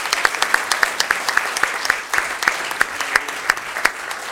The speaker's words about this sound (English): Round of applause for our German students.